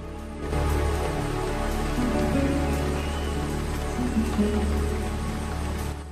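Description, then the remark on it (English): Steady rain falls in a forest in a continuous, even hiss that starts suddenly and holds at a constant level, with faint droplet patter and no voices. “blinks away droplets of rain as he stares upward.”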